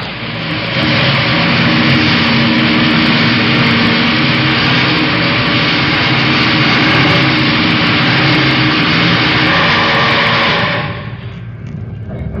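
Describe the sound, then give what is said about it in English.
A heavy motorized radiation shielding door, started by a button press, grinds shut between a cyclotron chamber and a meson beam area with a steady, loud mechanical hum and rumble lasting about ten seconds, then the motor winds down and fades to a quieter background drone. “I'll press the button and start this door closing.”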